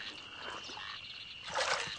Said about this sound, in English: That's the grown-up Daddy Frog.